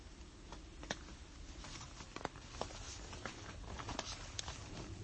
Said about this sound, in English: And there's only the pitter-patter of raindrops on the roof.